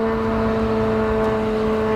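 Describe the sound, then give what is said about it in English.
A steady, droning engine hum with strong tonal bands from a noisy, cheap drone launched by Iran, flying very low and slow overhead, loud and continuous throughout with no voices. “And one of the most striking things from my visit was that in the few hours we were there, there were a couple of drones that flew overhead. These are the noisy and cheap drones that Iran has been launching since the start of this war.”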